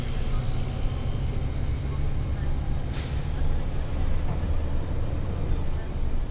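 A London bus engine rumbles deep and steady, with a brief sharp hiss of air brakes partway through and faint street noise in the background.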